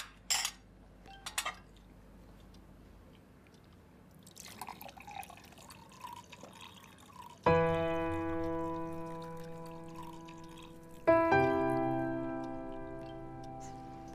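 Water is poured into a glass for a child at a family meal, in two long, steady pours with a bright, ringing tone, preceded by a few small drips and clinks. No one speaks.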